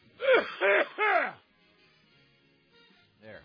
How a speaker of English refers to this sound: excuse me, I just wolfed down some very quick lunch, and so let me cough and hack for a second, hang on.